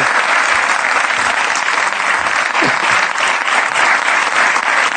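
An audience applauds steadily for several seconds, a dense, even wash of clapping hands that stays loud throughout without pausing.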